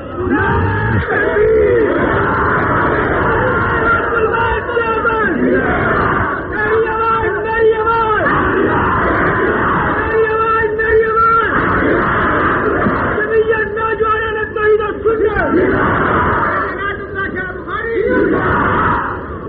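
A large crowd chants slogans in loud, rhythmic unison, voices rising and falling in repeated bursts that continue without pause for the whole stretch.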